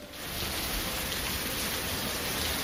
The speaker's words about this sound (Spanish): O esta tromba en Arganda.